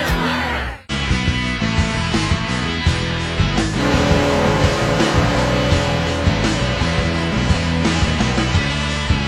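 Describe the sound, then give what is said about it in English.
A loud, blaring hockey goal horn drones through a busy rock song remix played on the radio show The Zone, the Wake Up Zone, holding steadily for several seconds after a brief drop in the music near the start. “Never heard the version of this song with the hockey horn in there.”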